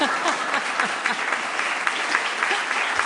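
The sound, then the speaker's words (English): Steady, dense applause from a large audience at a book event in San Francisco fills the whole stretch, a continuous wash of many hands clapping at even loudness, with faint voices mixed in. “My mother is here, so please clap extra loud.”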